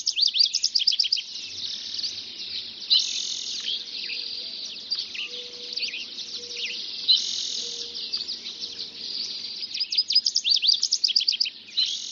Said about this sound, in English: The dawn chorus is really a musical performance with 2 or 3 or 12 separate acts. On this particular morning, another voice joins the chorus.